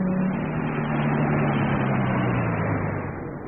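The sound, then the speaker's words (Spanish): A car engine hums steadily, its low drone sliding gradually downward in pitch as Calimán stops the car across the street from an Arab-style café at sunset on a hot day, fading slightly at the end. No one speaks. “Calimán detenía el auto a prudente distancia de un café de estilo árabe que se miraba en la acera opuesta.”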